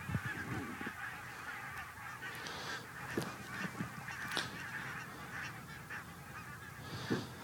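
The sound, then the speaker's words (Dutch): A large flock of geese honks continuously as they fly away in late March, many overlapping calls blending into a busy chorus with a few louder honks standing out. “En dan vliegen alle ganzen vliegen nu weg.”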